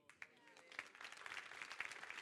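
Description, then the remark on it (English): Audience applause builds from a few scattered claps into a steady, dense patter of many hands, growing louder over a couple of seconds. “It's worth a bigger clap than that.”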